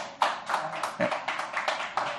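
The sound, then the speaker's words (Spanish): An audience breaks into steady applause, a dense, crackling wash of many hands clapping at once, fairly loud and sustained throughout with no voices standing out, as a fifth-grade primary school prize from the Colegio José María Pemán is presented. “Y fuerte el aplauso.”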